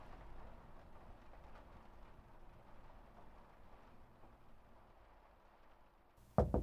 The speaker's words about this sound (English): And outside it begins raining. Perhaps the tower will get clean after all.